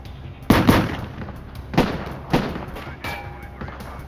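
Half a dozen sharp gunshots crack out at irregular intervals during a shootout, a gunman taking fire from agents at two different positions, some shots louder than others, each followed by a brief echoing tail against a low background rumble.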